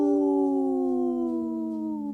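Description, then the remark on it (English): A person imitates a wolf with a long, sustained howl that slowly slides downward in pitch, loud, held steadily for about two seconds with no other sounds. “The howl called my dog over here, so she's ready to join the pack.”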